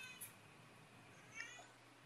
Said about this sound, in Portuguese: É um gato, filho. Um gato. É meu gato, calma aí.